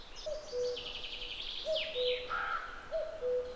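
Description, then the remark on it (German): A male common cuckoo gives its courtship call, repeating the two-note descending 'cuck-oo' three times at an even pace, clear, while other small birds chirp and trill in the background. “Der Balzruf der Männchen wirkt dabei wie ein Leuchtfeuer, das die Weibchen von einem Revier zum nächsten führt.”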